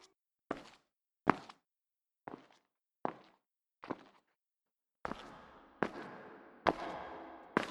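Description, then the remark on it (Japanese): A woman's footsteps approach in a steady, even rhythm, about ten sharp steps that grow louder and fuller toward the end as they draw near. No one speaks. “違います。女の足音。”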